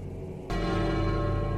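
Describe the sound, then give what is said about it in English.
A single tinny bell strike rings out after a brief quiet moment, its thin metallic tone sustaining and shimmering steadily without fading much. “The sound of a tinny bell tolling fills the air.”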